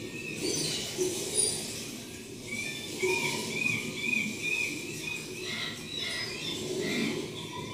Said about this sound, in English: What it sounds like. Hear the fish? Fish. Gulls. Raven. Bugle. Raven.